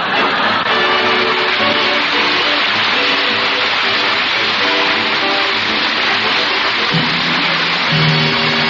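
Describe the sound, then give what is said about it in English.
A loud, steady car engine roars throughout, its pitch shifting as it revs and pulls away, with a broad rushing noise over the whole stretch and no voices, as a car parked out front drives off to the movies in The Great Gildersleeve. “Come on, Marge, let's go to the movie. My car's out in front.”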